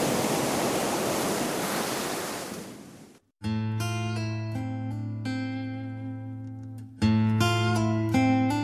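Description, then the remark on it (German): Ocean waves wash onto the shore of Sri Lanka's coast in a loud, steady rush of surf for about three seconds, then cut off abruptly as sustained, droning instrumental music takes over. “Schwelt oder tobt der Konflikt weiter, wird das Meer, das an Sri Lankas Küsten spült, immer weniger Urlauber vorfinden.”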